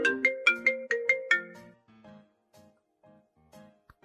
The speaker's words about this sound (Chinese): 哎， 是哥哥的电话吗？啊，没事，你接吧。